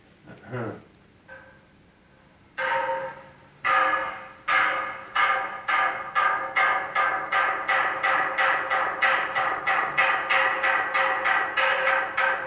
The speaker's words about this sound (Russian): Вот как это со Святой горы Афон, как звук била, то есть вот как звон.